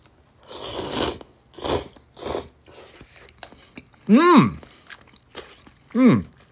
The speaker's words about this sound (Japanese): はい、ちょっと、まずは、じゃあ、このままね、はい、いただきたいと思いますけども。咀嚼音がしますので、ご注意ください。では、いただきます。